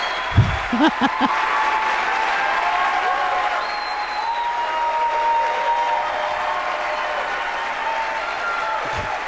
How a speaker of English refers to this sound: And the cheer, there must be a light for cheering, right?